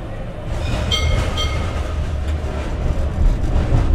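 A tram rolls steadily along its rails with a constant low rumble and brief high metallic squeals near the start. It sounds fairly loud, with no voices.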